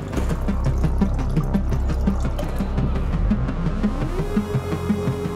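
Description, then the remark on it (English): Treated clean water pours steadily from a solar-powered machine that turns toilet waste water into clean water, a low mechanical thrum pulsing underneath, and the pitch rises near the end as the container fills. “And then the waste from the toilets would come here, it'll go into the machine, and then using solar power, we can turn the poopy water into clean water.”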